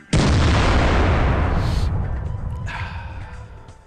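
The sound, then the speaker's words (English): A single loud cannon blast bursts out suddenly, its deep boom rolling and rumbling as it slowly fades over a few seconds. No one speaks. “I love the snark cannon.”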